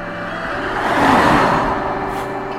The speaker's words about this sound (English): Dark red, could be a Renault, you know. Might play that. Oh, stop! It stopped outside the house. I can actually go and have a good stare at it, you know.